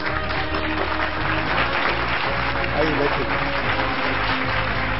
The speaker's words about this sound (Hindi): जी हाँ, जोरदार तालियों के साथ इनका भी स्वागत करते हैं।